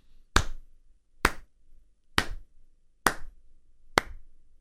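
slow clap

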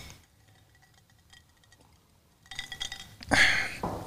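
glasses clinking

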